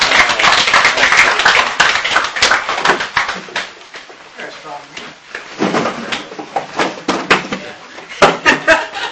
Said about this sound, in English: I think we need to clap for this. I think it'd be better if we take it. Thank you very much. Everybody, give him a big round of applause.